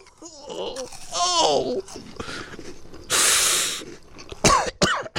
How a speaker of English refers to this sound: Just watching you, I have to cough.